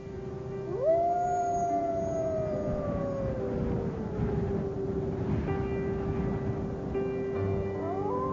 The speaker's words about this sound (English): listen for the howl of the spiritual brother, the wolf, for how it goes with him It goes with the natural world.